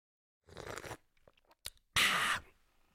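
Two loud, noisy slurps of tea right up against the microphone, a shorter one followed by a harsher, louder one, with faint clicks and mouth sounds in the gap between them.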